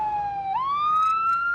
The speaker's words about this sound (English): We pass by that fire engine you heard earlier.